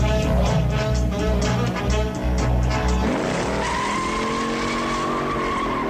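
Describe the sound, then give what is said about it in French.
A Ford Mustang engine from a film roars loud with a deep, pulsing rumble, then tires squeal as the revs climb into a rising whine. No one speaks. “il s'agit de la Ford Mustang de Steve McQueen dans Bully”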